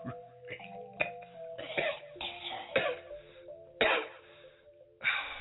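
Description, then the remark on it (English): A series of harsh, forced coughs bursts out at uneven intervals, about seven loud hacks, over a faint, steady humming tone in the background. “Coughing like this is really difficult.”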